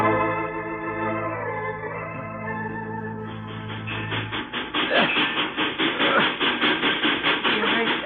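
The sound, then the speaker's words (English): A train engine draws closer, a steady droning whistle-like tone giving way to loud, rhythmic chugging and clattering that grows stronger. No voices are heard. “You hear that? I'm sure it's the engine.”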